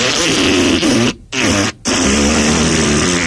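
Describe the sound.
A loud, buzzy fart noise blown with the mouth from a balcony, a wet raspberry that runs about three seconds with two brief breaks, with no talking.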